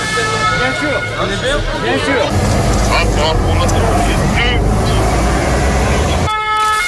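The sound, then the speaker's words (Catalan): Heavy bus engines rumble while sustained siren and horn tones sound over a murmuring, expectant crowd at arrivals at the Vila Olímpica, amid lights and security, the busy street noise staying loud and steady until it cuts off abruptly near the end. “Motors d'autobusos, sirenes, llums, molta expectació i seguretat.”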